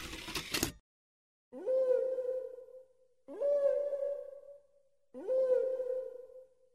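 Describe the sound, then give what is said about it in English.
Whale song from a CD of whale songs: after a short burst of noise, three long, evenly spaced moaning calls, each swooping upward and then holding a steady mid-pitched tone with rich overtones before fading. “Well, it is a song, yes, but it's a whale song.”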